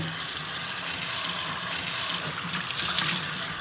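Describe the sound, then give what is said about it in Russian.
A tap runs steadily, water splashing and gushing into a basin with a continuous bright hiss that swells slightly near the end. No voices are heard. “Смотри, не набрызгай, а то мама рассердится.”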